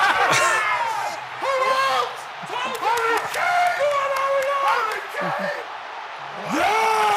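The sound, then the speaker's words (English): Joe Hart screams and yells in loud celebration of a goal while watching in Salford, over a din of other excited voices, his shouts rising and falling in pitch across several seconds, with brief lulls in between. “Listen to some of these screams.”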